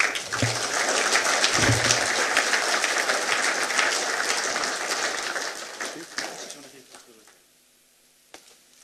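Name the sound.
applause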